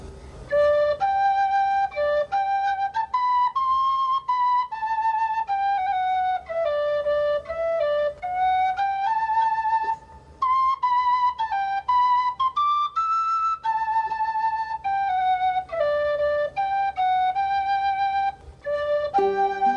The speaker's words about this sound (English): and here in my pocket is a tin whistle from Patty Maloney.